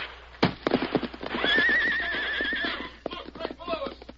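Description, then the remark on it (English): A horse, Silver, the Lone Ranger's great white stallion, lets out a loud, drawn-out whinny midway through, while hooves clip-clop in a quick, steady rhythm before and after the call. “Knowing that Silver, his great white stallion, possessed instincts that were infallible in an emergency, the Lone Ranger swerved suddenly and leaped for the horse's back.”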